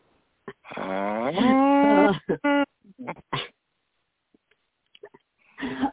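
A long, drawn-out moo lasting over a second, rising and wavering in pitch, likely a human voice imitating a cow, followed by a few short vocal bursts and brief quiet.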